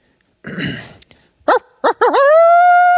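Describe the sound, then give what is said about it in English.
A human voice imitates a coyote with just the mouth, a call used to make turkeys gobble: a breathy rasp, two short sharp yips, then a wavering yelp that settles into a long, steady, mid-pitched howl held to the end. “Or let me hear the coyote.”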